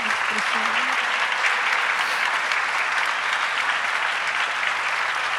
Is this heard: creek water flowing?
no